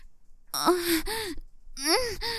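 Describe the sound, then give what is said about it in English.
Two breathless, fairly loud gasps, each a sharp airy intake with a voiced, moan-like edge, separated by a brief pause. No words are spoken. “I can't control myself. I'm gasping. My breath escapes with each thrust.”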